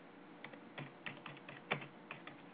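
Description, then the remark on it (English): Irregular, rapid keystrokes clatter on a computer keyboard, a string of sharp clicks with a low steady background hum and no voices. “Yeah, I'm just typing here.”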